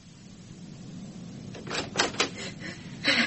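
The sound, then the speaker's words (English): Knocking at a kitchen door: a quick cluster of sharp raps, then a short pause and one more knock, heard over a low steady background hum with no one speaking. “Oh, that's my kitchen door, Doctor.”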